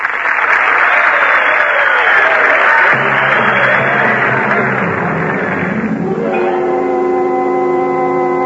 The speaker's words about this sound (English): But, I say but, I can promise you the ford of San Antonio will be revenged. Now, for that, you can applaud.